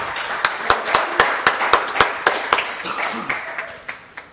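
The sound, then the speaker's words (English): An audience claps in a steady, fast rhythm while voices cheer and shout for the Lord in a loud, roomy wash, the clapping slowly thinning out toward the end. “Give the Lord a cheer.”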